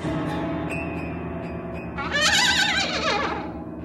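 A donkey brays, starting with lower harmonic groans and swelling into a loud, strained, wavering hee-haw in the second half, with no talking.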